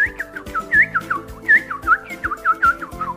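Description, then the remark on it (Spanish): Cheerful whistled birdsong imitation: a quick series of bright chirping, sliding whistle notes repeating rhythmically over a soft background hum, clear, with no talking. “Los pájaros cantaban alegremente.”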